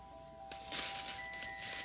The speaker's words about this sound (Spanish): Increíble, mágicamente, el fluido de monedas no cesaba.